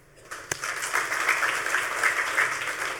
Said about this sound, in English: So anyway, how do you, who are definitely going to get in trouble, dude, how many of you carry a camera all the time? Clap.